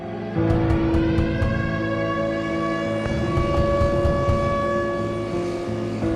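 An air raid siren warning of bombing in Leningrad sounds loud, a sustained droning wail with rich overtones that holds steady for several seconds over a low rumble, with no voices.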